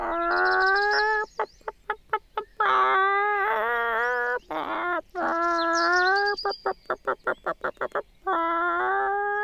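Chickens cluck in quick, rapid-fire bursts, broken by longer drawn-out squawking calls. The sound is loud and busy, with no talking.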